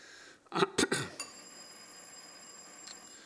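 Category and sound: signal or alarm, bell ringing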